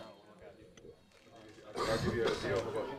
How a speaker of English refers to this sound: Excuse me. There's a cough coming. I didn't want to cough right in the mic.